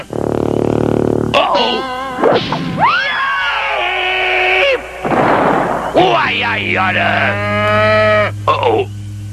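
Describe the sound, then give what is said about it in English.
A cow moos loudly, with several long, drawn-out calls whose pitch swoops up and down, running almost continuously with only brief breaks between them. “Okay, cow. How'd you like to jump over the moon?”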